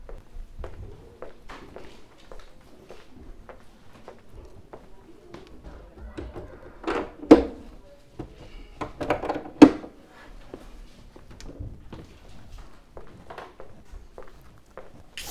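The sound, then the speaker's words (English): Steady footsteps tap along in an even walking rhythm as a speaker goes to close doors before a Bible reading, broken by two louder, heavier thuds of doors swinging shut, with a faint murmur of background sound underneath. “I'll go ahead and close these doors too.”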